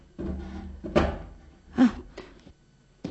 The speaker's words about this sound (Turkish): Şöyle yaklaştırın sandalyenizi.